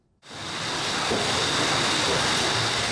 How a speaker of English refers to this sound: Past the shining steel tanks that brew the beer, the canning line of the Alaskan Brewing Company is humming along. A pallet full of empty aluminum cans is loaded into a machine that feeds them into the almost fully automatic assembly line.